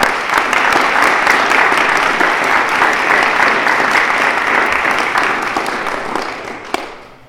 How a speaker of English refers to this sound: So I won't take up any more of Jerry's time, and if you'd like to give him a round of applause